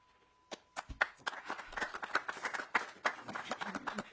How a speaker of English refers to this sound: And Mr. Chair, members, please hold your applause.